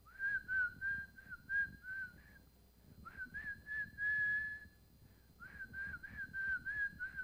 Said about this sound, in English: he's happy, and he's singing, and he started whistling. And here's what he started whistling.